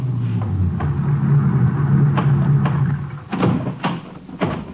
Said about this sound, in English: Barely got him unloaded when another ranger car pulled in.